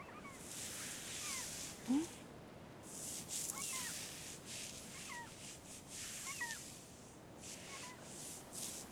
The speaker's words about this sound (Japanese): 海猫たち戻ってきたね。